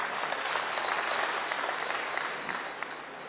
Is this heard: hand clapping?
yes